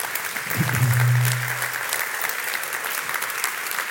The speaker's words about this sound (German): Lasst uns doch den Menschen auch mal nur einen Applaus geben.